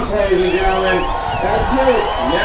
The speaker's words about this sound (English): You hear the crowd.